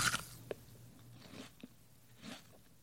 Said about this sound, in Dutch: Hans reikte naar boven en brak een stukje van het dak af om te proberen hoe het smaakte. En Grietje leunde tegen het raam en knabbelde aan de ruiten.